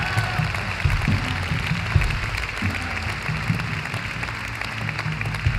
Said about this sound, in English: Oh, come on, you can clap for that today.